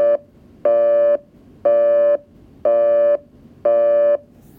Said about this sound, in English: So for instance, you got your standard kind of 60 hertz, one of those tone plants. They're not the 355 or the Stromberg, but they're basically around the 60 cycle hum, but it's actually a tone plant, and you get the little busy noise, right?